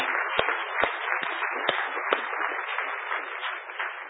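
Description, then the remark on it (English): A crowd at an event applauds steadily for a few seconds to thank the organizers, a dense, even wash of many hands clapping with a few sharper claps standing out, sounding somewhat muffled and thin. “Not here right now, but also worthy of a lot of applause, I think.”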